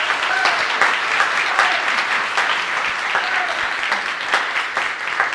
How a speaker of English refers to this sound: All right, folks, yeah, my mom just faced the congregation so everybody can clap once again.